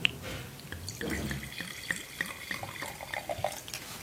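Wine from a screw-cap bottle pours generously into a glass, a steady gurgling stream with bright rising glugs and small splashes lasting a few seconds, with no voices over it.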